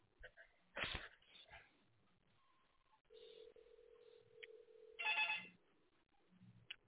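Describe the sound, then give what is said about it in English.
A telephone rings with a steady electronic tone lasting a couple of seconds, heard down a phone line amid brief clicks and faint background voices. “It's ringing now, sir.”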